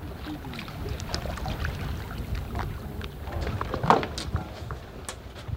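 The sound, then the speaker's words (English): A kayak paddle dips and pulls through the water of the Hudson River at Piermont, New York, giving soft irregular splashes and drips over a steady watery wash and light wind, with one sharper splash toward the end. “And I like to go kayaking, usually in the mornings.”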